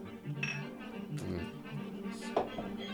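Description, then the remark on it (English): Glasses clink together a few times in a toast, in quick, uneven succession and fairly bright, over a steady low background hum with faint murmuring voices. “All right, I got enough to toast.”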